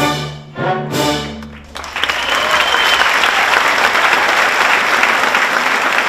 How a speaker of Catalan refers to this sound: Un èxit, com demostren aquests aplaudiments de la pública.